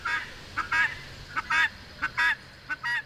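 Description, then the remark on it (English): A guinea fowl hen under the bushes in a neighbor's yard calls repeatedly in harsh, nasal two-note bursts, a short note followed by a longer one, about four pairs in a steady rhythm, clear with no talking. “Finally, we spot the elusive guinea in a neighbor's yard.”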